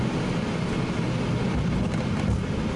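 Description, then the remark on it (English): A steady, loud roar of an airliner coming in to land in a fully automatic Category 3 landing, with deep low rumble and broad hiss that stays constant throughout, without any voices. “It is a fully automatic Category 3 landing.”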